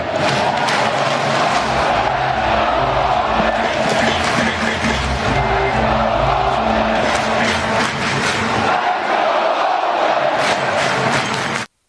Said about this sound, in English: I think we all should pay homage to this amazing stadium that we have had the privilege and pleasure of enjoying for 57 years. And I ask you for one more time to start the greatest cheer in baseball. Let's go, Oakland!